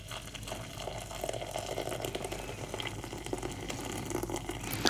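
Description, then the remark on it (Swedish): Hot water pours steadily over mate tea in a container for several seconds, about half a litre, a continuous splashing and trickling with no one speaking. “Jag tar hälften, jag tänker att vi kanske inte dricker mer än en halv liter. Då har vi hett vatten här.”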